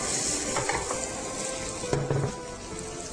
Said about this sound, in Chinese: 好好，那我们油放进去了之后呢，不要太热哦，太热的话蛋容易烧焦哈。我们把这个蛋呢放下去，因为我怕刚刚这个有一点热，所以我把锅子拿起来了哈。